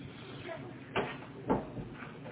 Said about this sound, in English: Shut the bedroom. Yeah, no, shut the bedroom door. That one's ringing.